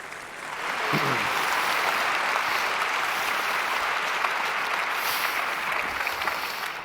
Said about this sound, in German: Großen Applaus für Ulf Burmeier und Thorsten Schröder.